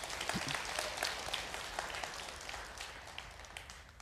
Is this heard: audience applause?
yes